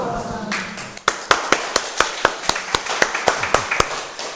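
An audience at a religious community gathering breaks into applause after a speaker's talk, settling into steady, rhythmic clapping in unison with sharp, evenly spaced claps over a crowd murmur; a voice is briefly heard just before the clapping begins.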